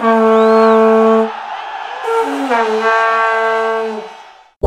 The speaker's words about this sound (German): Also müsste an jeder Vuvuzela eine Gebrauchsanweisung sein, wie man mit ihr die Schiedsrichterentscheidungen und so das Spiel beeinflussen kann. Nämlich Ruhe bewahren und erst nach einem Foul tröten.